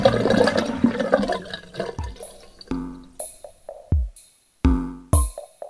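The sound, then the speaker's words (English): A toilet flushes with a loud rushing swirl of water that fades after a couple of seconds into a series of hollow gurgles and plunking drips. No one speaks. “I wish I could see the water flushing down.”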